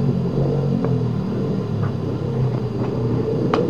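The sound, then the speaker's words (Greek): The engine of a rented car in Greece rumbles steadily and low throughout, a constant droning hum with a few faint clicks and knocks over it. “Είναι νοικιασμένο το αμάξι και δεν μπορεί να βγει έξω από την Ελλάδα.”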